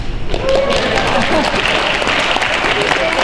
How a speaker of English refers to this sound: Welcome to the 14th annual Town of Olds Volunteer Appreciation Event. Applause.